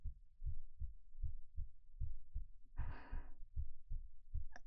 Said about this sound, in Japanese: ああ、うん、なんだかドキドキしちゃって心臓バクバクしてる。